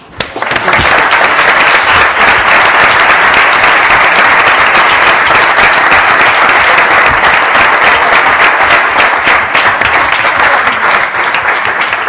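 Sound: applause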